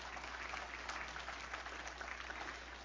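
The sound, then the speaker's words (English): An audience bursts into sustained applause as a clap offering during a sermon, a dense, steady wash of many hands clapping at an even level for about three seconds, with no voices standing out. “Come on, give him a good clap offering, would you?”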